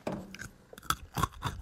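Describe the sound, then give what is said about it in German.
A crisp bite into a burnt spot of a freshly baked cookie, followed by a few loud crunches as it is chewed, with no talking. “sind die Plätzchen denn jetzt zumindest irgendwie so weit abgekühlt, dass man mal reinbeißen kann?”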